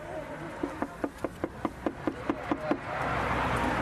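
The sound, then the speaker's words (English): A quick, evenly paced run of about eleven sharp knocks on a wooden front door on a Tuesday night, crisp, with a murky wash of noise coming from inside behind them. “The first door we knocked on, there was quite a lot of noise coming from inside.”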